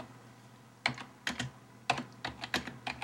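Keyboard typing as a person types the question 'how do I feel about Kochi': a series of sharp, irregular clicks and key taps, about a dozen strokes in uneven bursts, fairly loud against a quiet hum with no talking.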